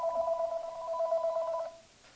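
A telephone rings with an incoming call, a steady electronic tone warbling rapidly for nearly two seconds before cutting off, with no voices.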